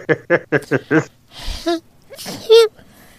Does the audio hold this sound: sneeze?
yes